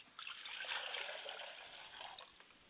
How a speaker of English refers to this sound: I pour libation to the east, and I say, Ashe. Ashe. I pour libation to the west, and I say, Ashe. Ashe.